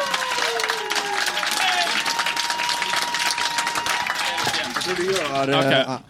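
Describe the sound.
A crowd applauds with dense, sustained clapping that fills the room for several seconds, mixed with some cheering and voices before fading out at the end.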